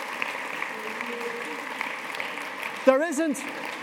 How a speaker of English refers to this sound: You see this lot? They're heroes. I want you to give them a round of applause.